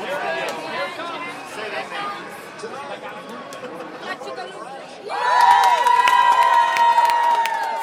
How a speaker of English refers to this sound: At the victory party in Pleasanton, at least 80 supporters packed the Alameda County Deputy Sheriff's Association headquarters, cheering as the ticker on the bottom of the big TV screen said California District 15, Swalwell 52%, Stark 47.